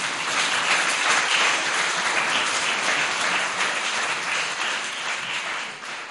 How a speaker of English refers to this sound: Can we just, we celebrated with them in their new church, but we just want to appreciate them, maybe with a holy hand clap for them, hey?